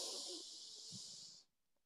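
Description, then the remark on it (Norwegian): A single deep inhale through the nose, a steady airy hiss lasting about a second and a half before cutting off into near silence, taken as the first step of a guided relaxation breathing exercise, before the breath is held. “Da starter vi med å puste godt inn gjennom nesa.”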